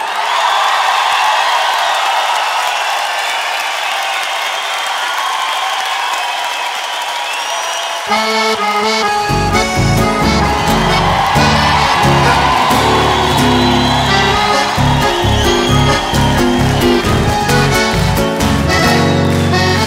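A crowd applauds loudly, a steady wash of clapping and cheering for about eight seconds, then music with a strong bass rhythm starts up and the applause fades beneath it.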